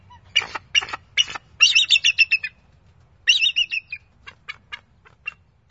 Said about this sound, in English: And be sure to keep your ears tuned in to the bald eagle's haunting song.